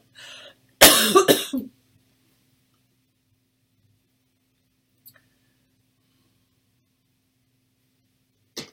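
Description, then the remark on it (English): A short fit of harsh coughing, a few rapid bursts in under a second, followed by near silence broken only by a couple of faint clicks. “I'm going to try not to cough”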